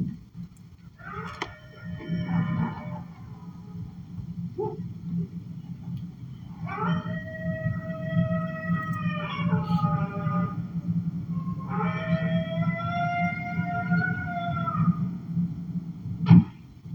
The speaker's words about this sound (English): I think I might hear those wolves.